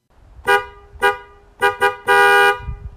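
truck horn honking

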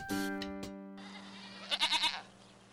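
goats bleating

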